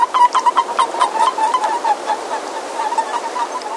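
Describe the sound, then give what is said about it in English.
Crowds of breeding male boreal toads in Glacier National Park call softly to define and defend their turf: rapid chirping, a steady stream of high peeping notes repeating over a wash of rushing water-like background noise. “Crowds of breeding boreal males calling softly to define and defend their turf.”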